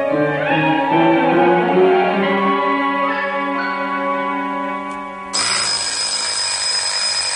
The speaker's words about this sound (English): Oh, the alarm clock.